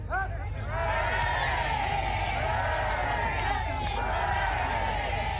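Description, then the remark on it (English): A large crowd in London breaks into loud, joyous cheering on seeing the royals, cheering for the new king, many voices shouting and whooping together in a sustained roar that swells after a brief quieter start and holds steady. “After such a long wait, the crowd's emotion at seeing the royals was evident as they broke into a joyous cheer for the new king.”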